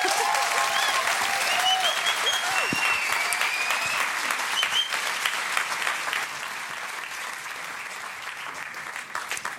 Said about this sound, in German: Wir sind sehr, sehr dankbar, euch zu haben und freuen uns auf noch alle gemeinsamen Abenteuer. Das ist euer Applaus.